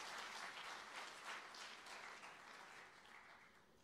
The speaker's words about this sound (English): Hallelujah. Give the Lord a big clap.